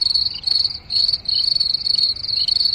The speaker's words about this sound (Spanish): El sonido efecto es de los grillos, ¿eh?